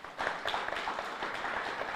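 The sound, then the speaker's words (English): An audience claps steadily to vote that a monkey was the first animal in space, a dense, continuous patter of many hands at moderate volume, with no voices. “With applause, audience, how many of you think the monkey was the first animal in space?”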